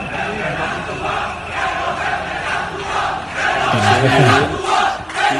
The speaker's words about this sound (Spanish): los gritos proferidos por estos policías nacionales en el hall del hotel, algunos de ellos de paisano